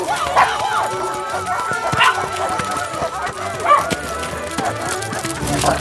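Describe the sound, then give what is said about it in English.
More than a dozen dogs, including one named Beardsley, bark and yip in scattered bursts, some overlapping, against a busy, cluttered background with a steady low rumble throughout. “Come on, we've only got 10 minutes until I have to return all these dogs.”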